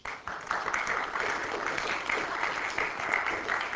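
An audience applauds to thank the speaker after a talk, a dense, steady wash of many hands clapping that begins abruptly and holds at an even level for several seconds, with no voices over it.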